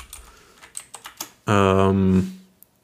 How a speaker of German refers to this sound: Muss ich auch nachgucken. Schon wieder Live-Recherche. So, jetzt hört ihr meine Tastatur, das wird lustig.